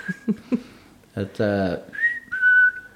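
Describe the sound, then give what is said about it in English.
A person imitates a sparrow's cha-cha call: a few short clicks and a brief voiced chirp, then two steady, fairly high whistled notes, the second held longer and louder. “Because if you listen to a sparrow, you'll kind of hear him, cha-cha, cha-cha.”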